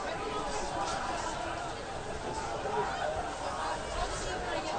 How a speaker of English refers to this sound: Most of the crowd still here at John Wall. And a big crowd it is.